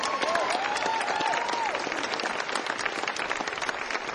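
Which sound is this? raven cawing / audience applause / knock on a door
audience applause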